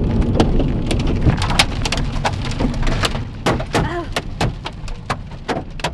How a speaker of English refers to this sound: Baseball-sized, windshield-cracking hail pummeled the Vortex Armada as it caught its first actual tornado.